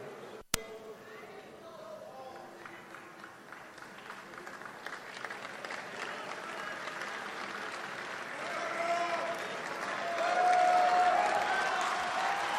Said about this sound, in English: Crowd reacting to the fact that he will have details in the coming days, seeming to demand them now. The third outbreak of protests. This is what happens when you go from 35 people to close to 2,000 people, I guess.